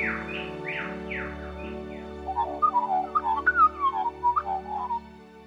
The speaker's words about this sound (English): Those birds sound so beautiful talking to each other.